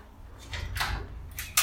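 A second door swings open with a soft scraping rush, followed by a sharper click or knock at the end as it settles. No one speaks.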